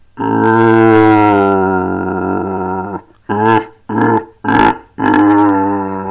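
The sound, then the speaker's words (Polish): A person bellows through a horn, imitating a red deer stag's roar: one long, deep, droning call of about three seconds, then four short, loud grunting bursts in quick succession. “To może zawyjmy tutaj w ten róg, zobaczymy, czy to rzeczywiście przypomina jelenia.”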